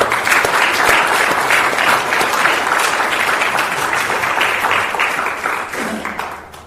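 An audience breaks into steady, loud applause, dense overlapping claps sustained throughout before tapering off slightly at the end, with no voices heard.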